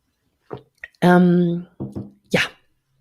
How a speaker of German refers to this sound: Ich trinke noch einen Schluck Wasser und dann geht es los.